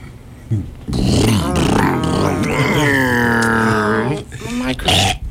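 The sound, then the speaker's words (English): A voice imitates a lawnmower engine with a loud, buzzy, sustained drone that sputters at first, then holds a steady pitch before rising slightly and cutting off, ending in a short breathy burst. “Now, this is lawnmower. Yeah. And we're not talking about lawn care, folks. No. No. Where's that sound effect?”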